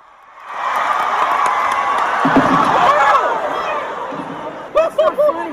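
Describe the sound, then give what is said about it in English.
A large crowd at a stage show cheers in a sustained, dense roar that abruptly gives way to startled gasps as a person falls off the stage, followed by a few short, bright bursts of laughter near the end. “You can hear the cheers in the crowd turn into gasps and then a few laughs as well as they fell.”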